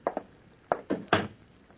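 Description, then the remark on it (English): Five sharp knocks on a wooden door one morning, a quick pair followed by three spaced raps, moderately loud with no voices. “One morning, I heard some rapping on my door.”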